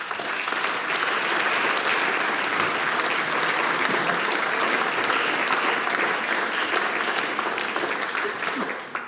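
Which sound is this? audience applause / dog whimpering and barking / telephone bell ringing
audience applause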